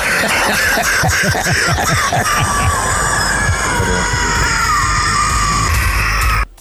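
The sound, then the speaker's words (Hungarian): A loud, gurgling, lung-clearing morning cough with rapid rattling pulses at first, then a strained, wheezy, bubbling rasp that hisses and whistles steadily like a coffee maker until it cuts off abruptly. “előbb kérdeztem, csak nem hallottad, hogy te emlékszel arra, amikor valami volt így ilyen tüdőtisztulásodban, és ilyen kávéfőző hangot adtál ki magadból?”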